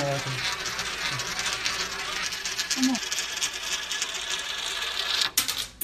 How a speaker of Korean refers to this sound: 자, 동전을 넣겠습니다. 중력 우물에 대해서 이렇게 설명하는 거죠. 그냥 뚱 안 빠지고.